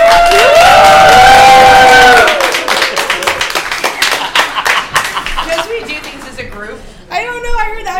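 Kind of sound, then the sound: crowd, audience clapping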